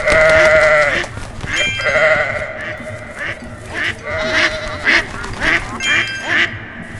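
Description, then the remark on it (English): A goat bleats repeatedly amid a busy chorus of farm animal calls, with wavering cries and quacking-like honks overlapping in loud bursts throughout. “I heard a goat.”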